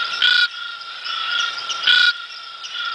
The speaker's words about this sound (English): Trying to guess this frog. Feels like it's misty and warm. Feels misty and warm. Okay. Where this frog inhabits. Let's have it again. You reckon big frog, little frog, medium frog?